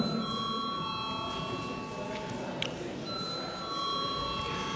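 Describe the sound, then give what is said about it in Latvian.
A parliamentary voting bell rings steadily before a vote on draft amendments to the Civil Procedure Law in first reading. It is a sustained electric ringing with bright overtones that continues for several seconds over faint room noise, without a break. “Nav nekas piebilstams, lūdzu zvanu.”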